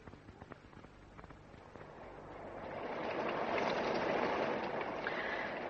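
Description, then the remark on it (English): Scattered crackling drops give way to a swelling, steady hiss of rain or running water that grows louder and fuller over the last few seconds, with no voices. “Looks as if it'll rain and we'll be able to have a shower later on.”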